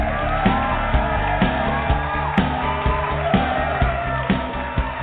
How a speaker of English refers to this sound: I always love that live studio audience applause every day. Boy, it sounds the same every day. I can't even believe it.